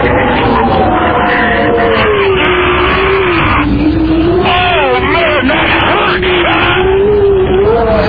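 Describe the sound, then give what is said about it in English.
Loud, unbroken roar of Hurricane Charlie's wind buffets a phone, with rough rumbling and a few sharp knocks as it's banged around, while a wavering droning tone runs underneath the whole time. “And you can hear the phone being banged around in the wind there.”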